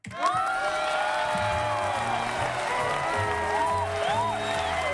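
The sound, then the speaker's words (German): A large audience cheers and applauds continuously, with whoops and shouts rising above a dense wall of clapping and crowd noise that stays loud throughout. “Ja, geht schon, Jubel.”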